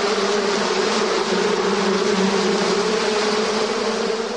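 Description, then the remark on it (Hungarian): A dense, steady buzzing of many honey bees swarming around their hives as they carry nectar from flowers into them, a continuous droning hum that stays loud throughout with no voices. “A szorgos méhek napkeltétől napnyugtáig hordják a nektárt a virágokból a kaptárakba.”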